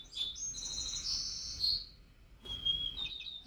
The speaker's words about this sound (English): That was a white-crowned sparrow.